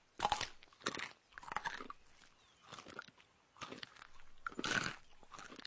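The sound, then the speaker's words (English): Wet crunching as bark is bitten and chewed for breakfast, in a series of loud bursts with short pauses between them, no voices present. “Granted, it takes some time to chew, but that was very satisfying.”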